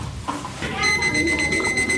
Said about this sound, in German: Einen Füllstandsmesser. Den kann ich über jeden Tasse, Becher, wie auch immer, drüber klipsen. Und wenn ich dann einschenke, das hört ihr jetzt gleich.